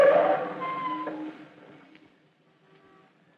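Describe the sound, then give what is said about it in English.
A car that has been flagged down pulls in and stops, a loud rush with a whining, squealing tone that fades out over a couple of seconds into near quiet, with no one speaking. “Hey, stop that car.”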